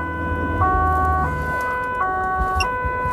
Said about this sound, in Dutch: Doe jij dat ook met je sirene? Zo? Je doet soms een ander geluidje. Met dit kan ik hem versnellen. Want Okay. Hij heeft even een attentiewaarde voor de weggebruiker.